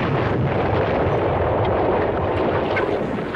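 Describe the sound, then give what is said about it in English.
A dynamite explosion blowing up a building roars and rumbles continuously for several seconds, a dense, heavy wash of noise with deep low-end weight and no voices. “He blew up the building? But how? Dynamite.”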